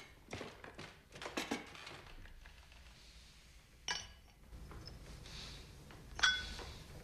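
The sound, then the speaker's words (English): A man in uniform at a table pours himself brandy from a decanter into a glass: soft knocks and shuffles, then a sharp glassy clink, a quiet trickling wash, and a final bright ringing clink, with no talking. “In uniform, with his sword at his side, he sits at a table and pulls the decanter of brandy towards him. She sits as he pours himself a drink.”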